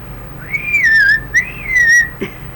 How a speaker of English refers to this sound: And how would you call horses to get them in out of the pasture? Whistle point.